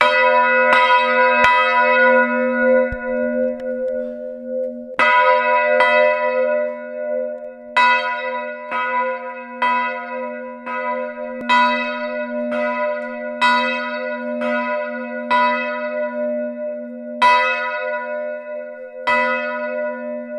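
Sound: large church bell ringing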